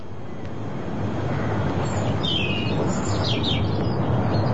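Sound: birds chirping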